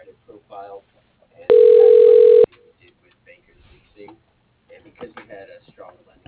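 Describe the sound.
A telephone rings once before the call goes to voicemail, a loud, steady electronic burst lasting about a second, with quiet speech murmuring before and after it.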